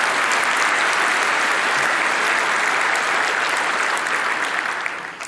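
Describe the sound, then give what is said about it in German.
Sustained audience applause at an event in Hamburg after a screened report about computer hackers, a dense, steady wash of many hands clapping at full strength throughout, easing off only slightly near the end, with no voices over it. “Der Applaus gebührt zum einen den akkuraten Darstellungen damals und auch den Leuten, die das in diesem Jahr wieder möglich gemacht haben, nach 39 Jahren wieder in Hamburg.”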